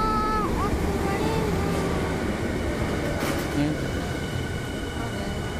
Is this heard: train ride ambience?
yes